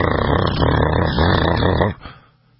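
The 6.7-liter Power Stroke V8 turbo diesel engine of a Ford F-350 truck hums with a loud, deep, throbbing rumble that holds steady for a couple of seconds, then cuts off abruptly, leaving a faint fading tail.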